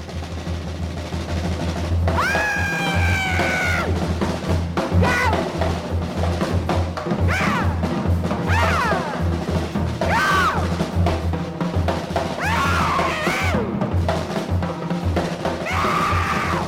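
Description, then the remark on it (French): A woman's voice screams again and again in a recorded jazz performance, each cry rising and sweeping sharply, loud, with a low, steady hum running underneath the whole time. “qu'est-ce que ça vous fait de réentendre ces cris justement”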